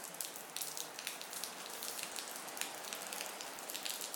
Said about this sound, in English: We're just waiting at the train station, waiting for a train. As you can hear, it's raining.